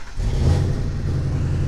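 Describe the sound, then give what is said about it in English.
A car engine rumbles with a steady low drone, rising slightly as a vehicle passes along the street, no voices present. “let's cross the street. Well, not yet. Cars are coming.”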